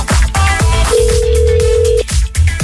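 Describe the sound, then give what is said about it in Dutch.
A single outgoing-call ringing tone, one steady mid-pitched beep lasting about a second, as a phone call is placed to the first contestant for the fifth question of a quiz, over loud rhythmic background music with thumping beats. “Ik ga een telefoontje plegen.”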